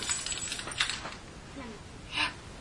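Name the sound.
keys jangling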